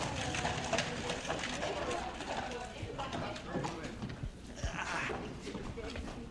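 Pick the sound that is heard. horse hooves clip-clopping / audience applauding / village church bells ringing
horse hooves clip-clopping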